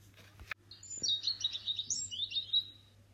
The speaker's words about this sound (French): Le rat monta dans l'arbre et il fit peur à un oiseau qui se débat, pensant qu'on en veut à sa couvée.